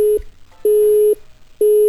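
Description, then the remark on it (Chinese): A telephone busy tone after a sales call is hung up: a steady, mid-pitched beep repeating in evenly spaced pulses, about half a second on and half a second off, clear and fairly loud with no voices. “哎哎，电话咋挂了呢？”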